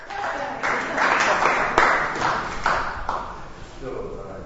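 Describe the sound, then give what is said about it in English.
An audience applauds and cheers to vote and break a tie, in a dense, steady wash of clapping that swells in a few surges, with crowd voices mixed in, then thins slightly toward the end. “And by your applause, you will break the tie.”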